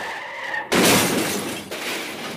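Tires screech in a brief skid, then a loud car crash bursts in with a heavy impact and a spray of shattering glass that keeps clattering, followed by a second smash.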